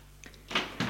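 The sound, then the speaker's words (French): A door in a château opens after a knock as a man enters: a couple of faint clicks from the latch, then a broad, fairly loud swish and creak of the door swinging, with no voices. “Et entre Georges.”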